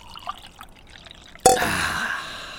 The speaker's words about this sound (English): But I've got my coffee here. I'm going to pour myself some.